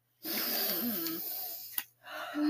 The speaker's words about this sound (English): I'm going to teach you how to harness the power of a good sniff.